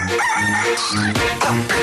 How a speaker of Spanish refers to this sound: El gallo.